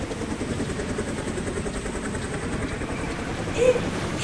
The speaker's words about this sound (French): Oh, regarde ! Un hélico !